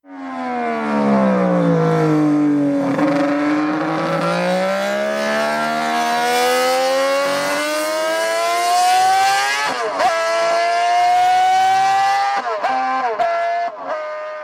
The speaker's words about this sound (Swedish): Nummer tre är också en motorcykel. En Honda 250 kubikare med 6 cylindrar. En racer från 1960-talet.